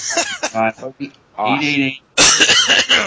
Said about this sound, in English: And sorry, I'm coughing up a lung.